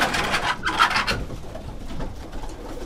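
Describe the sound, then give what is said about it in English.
A flock of about 140 racing pigeons in a wooden loft on a flat rooftop stirring in alarm, with a burst of rustling wingbeats at the start that settles into soft, low cooing and shuffling. No one speaks. “He's got 140 pigeons here. They're racing birds.”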